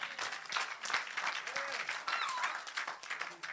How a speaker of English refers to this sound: Clap for the Lord Jesus.